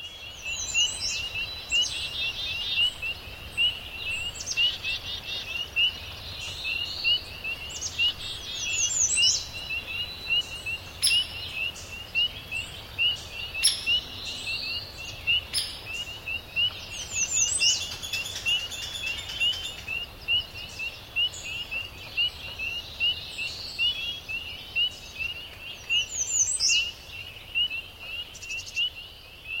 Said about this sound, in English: Behind us right here, early dawn, this is in the Adirondacks, soundscape of peepers and insects, birds, woodpecker comes in.